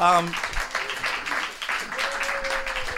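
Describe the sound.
An audience breaks into a steady round of applause lasting a few seconds, the dense clapping fairly loud and close, with a brief voice at the start and faint cheering mixed in.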